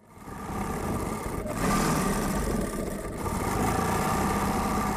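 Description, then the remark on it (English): An old, chipped, black Singer sewing machine, used by a tailor for alterations for clients, runs steadily, its motor giving a continuous mechanical whir and rattle that swells slightly after the first second and holds for several seconds, with no voices. “But every so often, he fires up his old, chipped, black Singer sewing machine and does a few alterations for clients.”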